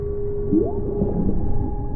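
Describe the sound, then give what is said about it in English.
Underwater ocean ambience from virtual reality audio: a steady low rumble with faint humming tones, and a brief whale-like call that swoops upward in pitch partway through. No one speaks. “Think ocean sounds.”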